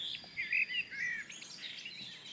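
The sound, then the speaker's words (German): A garden warbler sings a fast, rambling warble of mellow chirps and short liquid phrases, moderately loud at first and then softer, with no voices. “Und jetzt die Gartengrasmücke halt eben.”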